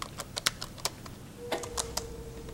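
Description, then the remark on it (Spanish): Quick, uneven clicks of keys as someone at a table in a dark room, lit by a desk lamp and moonlight, begins writing on a computer keyboard, a dozen or so sharp ticks with short pauses between them, fairly quiet, with a faint steady hum underneath. “Se arrima a la mesa y empieza a escribir.”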